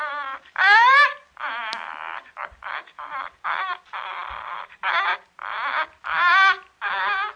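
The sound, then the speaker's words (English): A caged bird, moving about and nodding its head, coos and gurgles in a steady series of short, warbling bursts, fairly loud, its strange bubbling calls separated by brief pauses, with no voices. “The bird was cooing and gurgling”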